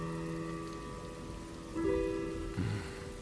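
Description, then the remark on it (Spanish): Rain falls steadily in a continuous, even hiss, with soft sustained tones humming beneath it and a couple of slightly louder swells near the end. No one speaks. “Ya empezó a llover.”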